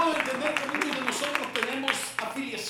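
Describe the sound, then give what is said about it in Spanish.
An audience applauds God, clapping in a steady, dense patter while many voices call out and cheer over it, the clapping and shouting blending into one continuous, fairly loud burst of praise. “¿Cuánto le regalan a él un aplauso?”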